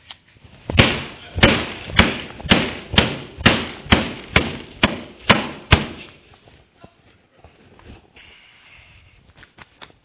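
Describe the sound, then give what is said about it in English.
A hammer smashes a cell phone with about eleven loud, sharp blows in a steady, fast rhythm, followed by faint crackling and scattered small taps as the pieces settle. “this in the bag and I pretended that I was going to smash it, and I took the hammer, and I'm, you know, you guys are, you're all getting real nervous right now because you think this is a cell phone of value”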